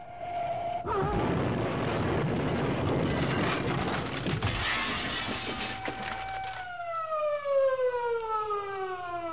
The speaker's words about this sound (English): The sound of a car wreck and an ambulance siren awakened him.